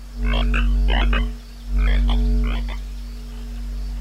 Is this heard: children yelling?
no